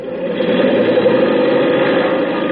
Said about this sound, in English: Plane number 7, now taking off for reconnaissance.